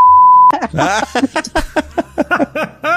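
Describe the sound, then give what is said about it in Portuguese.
A loud, steady censor bleep holds a single pitch for about half a second, masking a word, and then a voice carries on speaking in quick, animated bursts. “Fala pra mim aqui, a gente vai bipar.”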